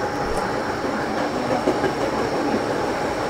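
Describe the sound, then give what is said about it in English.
A steady, loud rumble of a crowded subway car in motion carrying several hundred people, with continuous rattling and faint clacking of wheels on track, heard from inside the carriage without any clear voices. “And there must be several hundred people on this car alone.”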